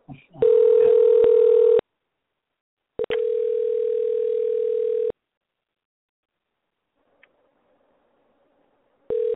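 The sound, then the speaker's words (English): A telephone line tone plays while calling someone back on another phone, as steady, low-pitched electronic hums: a burst of about a second and a half, a longer two-second burst, then silence before a brief final one. No voices. “Call back in on my other phone.”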